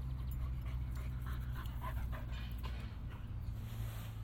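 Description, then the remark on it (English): A dog pants in quick, rhythmic breaths, steady for several seconds over a constant low outdoor rumble like wind. “The dog's going to be soaking.”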